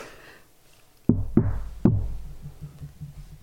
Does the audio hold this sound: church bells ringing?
no